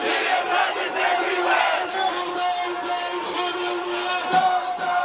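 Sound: protest crowd chanting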